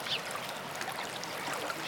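Steady, continuous rush of flowing water with a bright, even hiss and no pauses or voices throughout.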